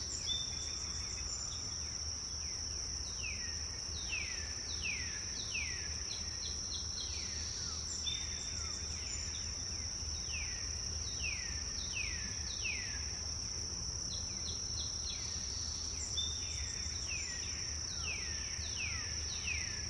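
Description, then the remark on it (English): Birdsong of repeated quick downward-sweeping notes in bursts, set against a constant high insect-like drone and low background rumble, with no voices. “In the point of the birdsong, just ask yourself, am I aware?”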